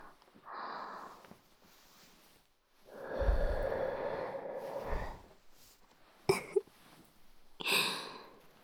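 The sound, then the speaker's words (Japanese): Soft breaths blown toward the listener's mouth: a brief puff, then a long airy exhale lasting a couple of seconds, followed by two quick, sharper bursts of breath, with no talking. “少し息吹きかけただけで、あなたの口に私の吐息が届いちゃう。”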